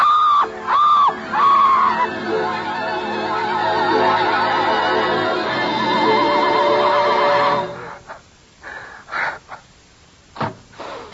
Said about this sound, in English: She heard you scream.